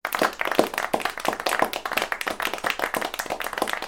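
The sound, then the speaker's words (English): A short burst of applause: a small group clapping steadily and briskly for a few seconds, fairly loud, with no voices. “We can have a little applause or something like that.”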